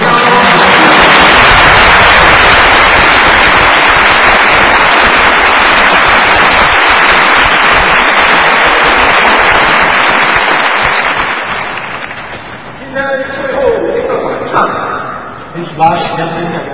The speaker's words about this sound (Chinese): 好不好，我们用热烈的掌声。